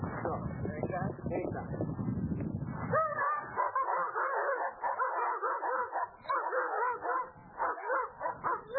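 Several trained dogs bark and yip excitedly, a loud, rapid, overlapping volley of sharp calls that keeps going with barely a pause, preceded by a low, rough rumble.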